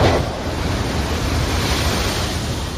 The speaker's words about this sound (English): Think about the power of the ocean. You can hear it, you can see it, and you can feel it. It doesn't stop. It just keeps on rolling in, wave after wave.